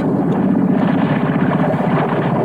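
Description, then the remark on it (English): A boat motor idles steadily with a low, rhythmic chugging, mixed with broad wind and water noise, as the boat is slowed by a rock so a passenger can jump off. The engine keeps running evenly throughout without fading, and no one speaks. “The motor's died. And the boat's drifting.”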